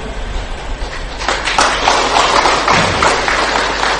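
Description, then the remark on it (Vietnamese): Scattered, uneven hand claps from a small audience of Buddhist followers, starting after a brief pause and continuing as a loose, irregular patter rather than steady applause, with no voices over them. “Còn đằng này vỗ sao mà nghe nó thưa thớt quá, phải không?”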